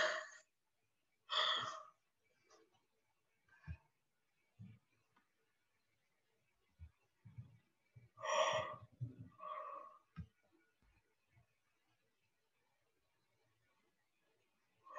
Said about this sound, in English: That's fine if you yawn, but you know I'm gonna yawn.